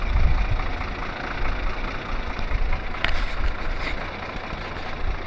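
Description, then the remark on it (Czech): A warmed-up bus engine idles at the rear of the bus, a steady, loud low rumble with a constant mechanical hiss that holds unbroken throughout, with no one speaking. “A teď jsme u motoru.”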